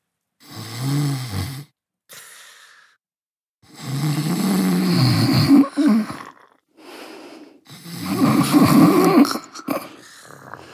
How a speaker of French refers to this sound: Les ronflements ne tardèrent pas à se faire entendre.